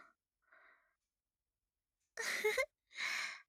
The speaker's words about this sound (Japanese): あくびが映ったね。